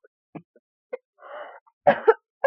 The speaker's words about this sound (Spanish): Y con esta tos que tengo...